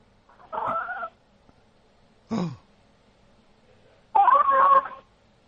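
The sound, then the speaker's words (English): A female cat named Bub meows three times in short, separate calls with pauses between: a nasal mew, a quick downward-sliding squeak, then a longer, louder wavering meow, with no talking. “Hey, can you hear my cat?”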